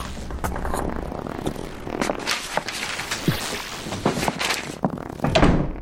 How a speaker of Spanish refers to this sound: En cuanto su hermana cerró la puerta, Gregorio salió de debajo de la cama y respiró muy hondo.